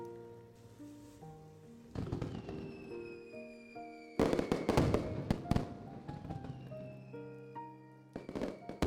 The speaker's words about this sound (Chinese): 我希望你平平安安、顺顺利利、健健康康，还希望以后年年我们都可以这样一起看烟花。